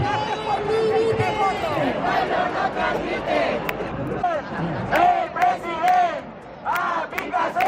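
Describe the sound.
A large crowd of protesters carrying placards, denouncing the government's inaction over a tragedy, chants and shouts together in loud, overlapping voices, with sharper bursts of yelling and a few claps or whistles rising above the din toward the end.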